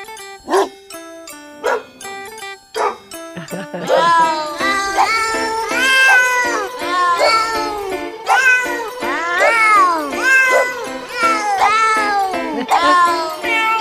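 A novelty song sung entirely in cat meows: after a short plucked instrumental intro, loud, closely layered meows carry the melody in a steady, bouncy rhythm over the backing music.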